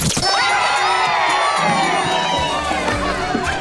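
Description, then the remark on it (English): A Sports Radio 94 WIP Midday Show contest sounder for the Hughes Holiday stocking: a loud burst of crowd cheering with excited children's shouts and high whoops, sustained at full volume for a few seconds with no talking. “And listen for this sounder.”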